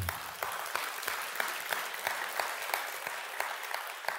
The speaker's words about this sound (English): Yes. You got to go ahead and clap.